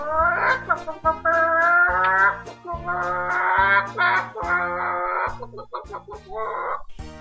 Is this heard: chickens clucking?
yes